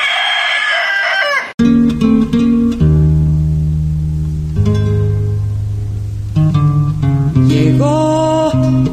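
A single loud rooster crow rings out for about a second and a half, then cuts off abruptly as instrumental music with deep sustained notes begins.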